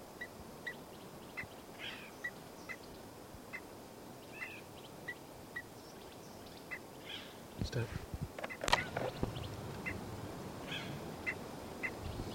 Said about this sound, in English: That's continuing alarm calls of 318.